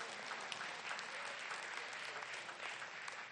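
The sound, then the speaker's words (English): An audience claps steadily for a few seconds in praise to God, a dense wash of many hands at a fairly even level with no voices standing out. “Oh, let's clap unto the Most High.”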